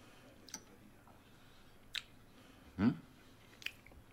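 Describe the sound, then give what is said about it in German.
Wet lip smacking from someone chewing: a few sharp, sticky clicks spaced apart, with one fuller squelchy smack in the middle, all quiet and with no talking. “Boah, der Schmatz macht mich selber wahnsinnig.”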